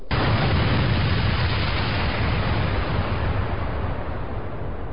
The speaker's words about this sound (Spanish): Una explosión sacudió el aire sobre el río y derribó a los hombres como fichas de dominó. Levantó el agua de su cauce e hizo que los árboles se inclinaran hacia el sur.